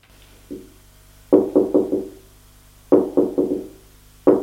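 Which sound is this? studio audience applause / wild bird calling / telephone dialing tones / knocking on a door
knocking on a door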